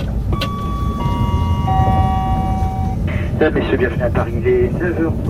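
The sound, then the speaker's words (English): A Eurostar high-speed passenger train travels from London to Paris with a loud, steady low rumble and a thin electric whine, while indistinct voices murmur in the second half. “A few weeks later, I take the Eurostar train from London to Paris”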